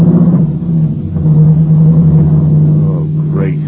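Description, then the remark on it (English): A car engine runs loud with a steady droning hum, pushing harder and rising in pitch near the end as the vehicle pulls away. “Get in and drive us away, quickly.”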